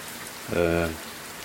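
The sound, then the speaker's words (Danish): Heavy rain during a thunderstorm hisses evenly throughout, with a brief tonal, voice-like sound rising over it in the middle for about half a second before fading back to the rain. “Tidligere på dagen, jeg vågnede faktisk ved regnvejr og kraftig torden.”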